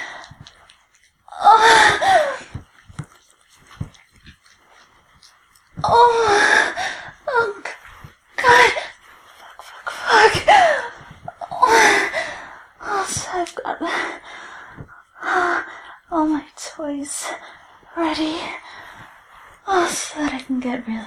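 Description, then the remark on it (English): A woman whimpers in a series of irregular, breathy bursts, some voiced with falling pitch, mixed with sharp gasps and short pauses between them. “I know you love hearing me whimper.”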